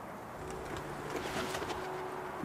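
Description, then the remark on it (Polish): A few pigeons left inside a dovecote by a stable, after the rest flew out, coo softly and continuously, a low, muffled burbling that sits over a steady background hiss, with no voices present. “Wyleciały z niego przed chwilą gołębie, ale słychać takie gruchanie, więc chyba kilka sztuk zostało w środku.”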